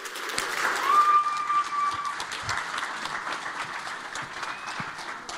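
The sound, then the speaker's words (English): An audience at a church service applauds the kids after their program, a dense wash of many hands clapping at an even level for several seconds, with a few faint tones and murmurs mixed in. “Well, I think we can clap a little harder and longer for all the kids and all we've had this morning.”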